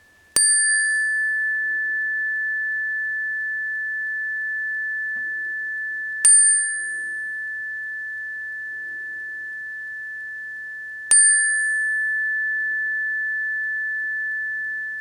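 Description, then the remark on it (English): Three clear bell strikes ending a guided body-awareness meditation, spaced several seconds apart, each a sharp ding with a long, pure sustained ring that lingers between strikes, heard alone with no talking. “sensing this breathing body and being aware of this experience, staying with awareness of the entire body until you hear the sound of the bells.”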